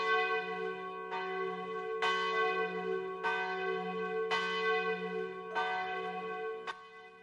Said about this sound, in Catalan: Mirava de veure-hi en la foscor quan les campanes d'una església veïna tocaren els quatre quarts.